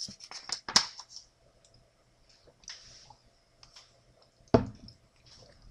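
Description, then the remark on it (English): Someone takes a drink of water, with small clicks and a couple of sharper handling snaps, separated by quiet pauses and no talking. “Speaking of which, I need a little bit of water here as we close up.”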